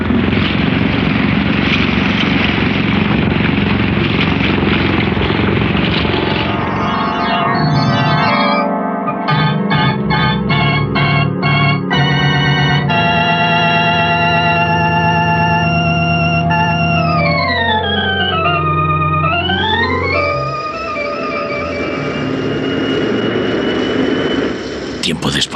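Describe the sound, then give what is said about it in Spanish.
A speedboat engine roars loudly as the speedboat sets off back to a merchant ship, starting with a broad rushing noise before settling into a droning motor tone that rises and dips in pitch as it throttles. “Luego la lancha rápida se pone en movimiento de regreso al barco mercante.”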